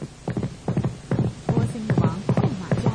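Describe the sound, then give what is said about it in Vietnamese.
A horse's hoofbeats pound in a steady, rapid rhythm, each beat a fairly loud thud repeating about twice a second with no one talking, as King Ba Tư Nặc rides at full speed toward the land of Ma Đà Kiệt. “Vua Ba Tư Nặc đã phóng ngựa thật nhanh đến nước Ma Đà Kiệt xa xôi.”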